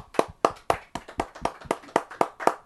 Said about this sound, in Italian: Ah, tutti facciamo un applauso.